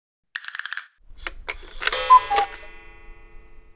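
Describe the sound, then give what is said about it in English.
A woodpecker, fairly close, drums in a quick burst of about eight sharp knocks, like a jackhammer, then a few scattered taps and a louder, ringing clatter that fades out. No one speaks. “And I noticed that the woodpecker is here. Fairly close.”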